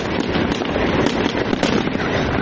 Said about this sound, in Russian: В тот же вечер в Грозном состоялось новогоднее праздничное шоу, которое завершилось салютом.